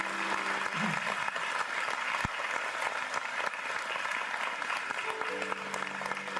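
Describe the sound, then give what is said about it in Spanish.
Steady, dense applause from a sizable audience, given in recognition and thanks: a continuous wash of clapping hands with no pauses, and no one speaking over it. “Y quiero con este aplauso reconocer, comunicar.”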